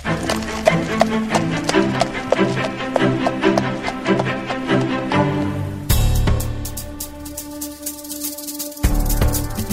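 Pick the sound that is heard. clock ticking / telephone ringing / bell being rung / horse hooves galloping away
horse hooves galloping away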